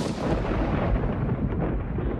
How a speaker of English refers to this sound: Speaking of roaring, nothing roars louder than thunder, which typically booms at around 120 decibels.